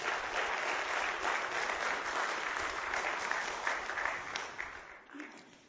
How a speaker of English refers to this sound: So let's give them a round of applause if we could.